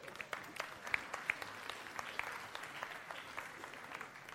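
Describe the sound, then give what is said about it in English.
An audience claps steadily for several seconds, a dense patter of many hands at an even, moderate loudness with a few sharper claps standing out, no voices heard. “Again, give him a round of applause.”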